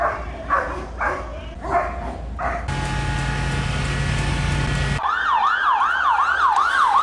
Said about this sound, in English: The dog unit deployed, water cannon, riot police. Those were the scenes during a second night of violence in Ballymena.